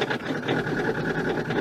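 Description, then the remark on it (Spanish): An old car engine sputters along, coughing and stalling, with a rough, buzzing rumble, uneven rapid pulses running through it at a fairly constant loudness, with no voices. “Y ahí empieza esto como a toser. Venga, pero se cala.”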